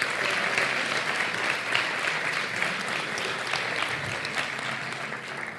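A crowd applauds the nominees for the iVox award in the sports category, a dense wash of many hands clapping at an even, loud level that holds for several seconds before tapering slightly at the end.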